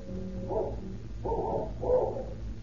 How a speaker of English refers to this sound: But the only greeting they receive is the fierce barking of a cur dog, which Gutsweiler and King had seen loping down the road after the two retreating men.